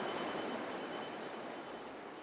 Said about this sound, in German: Deshalb untersuchen sie auch Kläranlagen, etwa die in Diemelsee in Hessen. Hier rauscht das Wasser über 13 Meter bis nach unten in den See.